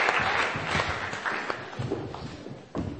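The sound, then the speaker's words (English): A room full of people applauds those who showed the Passover meal symbols, a dense, steady patter of many hands clapping at moderate volume for about three seconds, with one sharper clap near the end. “If we give everybody a clap, if you put your pieces of paper down and head back to your seats, that's brilliant.”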